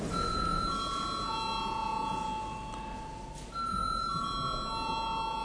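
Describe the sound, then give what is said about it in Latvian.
A steady electric bell rings continuously for about five seconds in the Latvian parliament, the Saeima, calling deputies to vote on confirming a deputy's mandate. It is a bright sustained tone with layered harmonics, briefly dipping in loudness midway before resuming, with no talking. “Lūdzu zvanu.”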